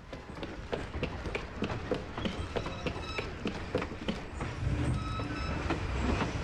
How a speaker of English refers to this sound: The train's going so fast! We'll get killed if we jump off! We're coming to a hill! The train will slow down going up.